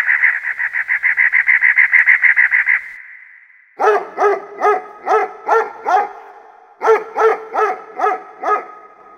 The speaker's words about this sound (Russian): Назови лишний звук. Это лай собаки.